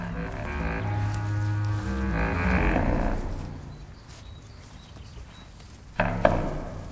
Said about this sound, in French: Ici, on est face à tes brebis, on est dans une zone complètement ouverte, et il y a le Vercors pas loin